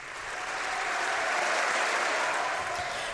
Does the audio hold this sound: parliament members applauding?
yes